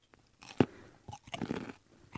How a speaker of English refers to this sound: Well, that sounds that's something crispy, crunchy, slightly wet, so probably a vegetable, I would think. I'm going to say carrot. Oh, it's a carrot.